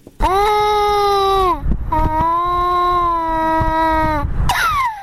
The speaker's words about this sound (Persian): گریه این کودک از گرسنگی است.